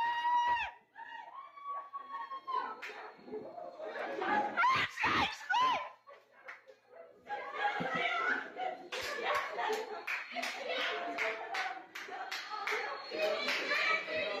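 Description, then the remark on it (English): A family watching in an apartment cheers on their relative, a runner from Tunisia, during a race: a small group of excited voices cheering, shouting and squealing, with bursts of clapping and laughter mixed in, rising in energy throughout. “His family's cheering him on. You can just hear the excitement and happiness in their voice.”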